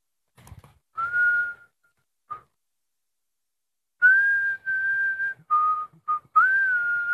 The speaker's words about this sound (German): Ich pfeife ein Lied so lange.